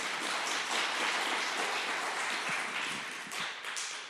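A church audience claps together in a steady, dense wash of applause that holds for about four seconds, then thins slightly toward the end. Nobody speaks over it.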